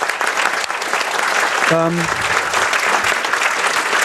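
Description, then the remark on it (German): An audience applauds the audio team at the Sendezentrum, steadily for several seconds, a dense, loud wash of clapping with a brief tonal whistle or voice-like hum cutting through near the middle. “Noch einmal klatschen für unsere Audio-Engel.”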